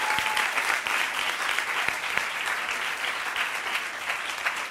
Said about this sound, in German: Einen dicken Applaus für Janka Welke.